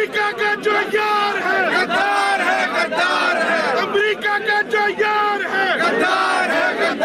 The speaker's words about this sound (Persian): هجوم هواداران عمران خان نخست وزیر پاکستان به خیابان‌های اسلام آباد. تظاهر کنندگان شعارهای علیه ایالات متحده و اسرائیل و در حمایت از عمران خان سر دادند.